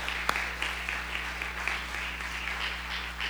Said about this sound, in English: Do you love your pastor? Do you love your pastor? Can you applaud for that? All right.